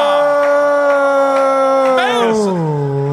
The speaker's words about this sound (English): Oh. I didn't know you get booed for getting it wrong.